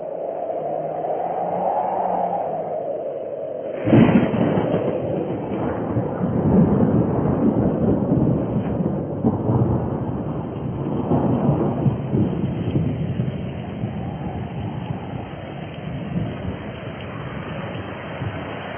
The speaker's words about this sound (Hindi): उसके बाद बारिश शुरू हो गई।